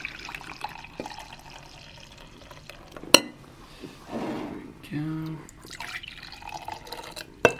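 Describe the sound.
Brewed coffee, just mixed with a swirl, poured into a cup in short splashing bursts, with a rising gurgle as it fills, a sharp clink just before, and soft dripping and faint voices around it.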